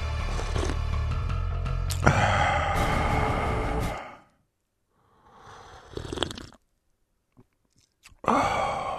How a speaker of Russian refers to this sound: Ну, я мог бы не прихлёбывать, но вы же тогда не поймете, что я так делаю. Поэтому приходится создавать звук.